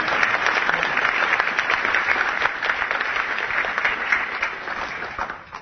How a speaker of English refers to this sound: But it is great to be here, especially to get the applause.